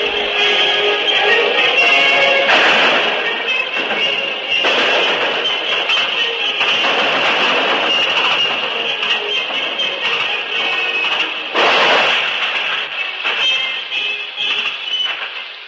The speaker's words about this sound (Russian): Особенно упорные бои развернулись в центре Праги у здания чешского радио, занятого повстанцами. На фоне музыкальной трансляции слышны выстрелы.